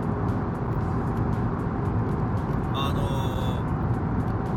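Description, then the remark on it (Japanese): Loud, steady roar of a car driving through a long expressway tunnel in busy traffic, dense low rumble filling the space with a brief higher whine partway through, continuous. Recorded on 14 August 2014 around 10:36. “トンネル入りましたけど、あー、このトンネル長いな、このトンネル長いわ。”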